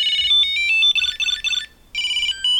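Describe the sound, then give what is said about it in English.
A Bluetooth Tile Pro tracker, rung by tapping Find in its phone app, rings with a bright, high-pitched electronic melody of quick chirping notes, played in two loud bursts separated by a short pause. “Tap find to ring your Tile.”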